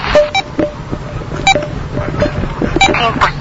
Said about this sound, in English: So now we are in the AM broadcast band. That's 3 beeps from the low beep.